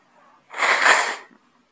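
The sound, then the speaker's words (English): A single forceful nose blow in the middle of a talk, a harsh, airy honk lasting under a second, preceded by a faint breath. No one speaks. “Hardly graceful to blow my nose in the middle of a talk, but hey, reality speaks.”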